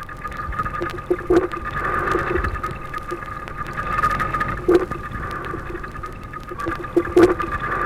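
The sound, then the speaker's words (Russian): A rockling fish rumbling underwater in an aquarium: low, murmuring grunts over a steady aquarium hum, broken by a few brief knocking pulses spaced a few seconds apart, with no voices present. “Морской налим издает урчание.”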